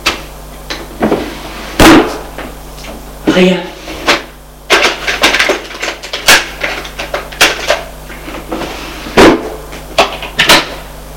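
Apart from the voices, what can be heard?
drawers being opened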